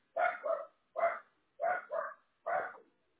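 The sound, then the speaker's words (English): A dog barks at another dog in a quick series of about six sharp woofs, some paired in doubles, moderately loud, with short silent gaps between bursts. “He's okay. He's just barking at the other dog.”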